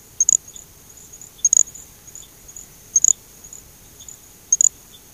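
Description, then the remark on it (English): A little grass frog calls in a very high-pitched, insect-like buzz: a thin steady tone broken by four sharp chirping bursts at irregular intervals, heard alone with no voices. “The call of a little grass frog resembles a very highly pitched buzzing insect.”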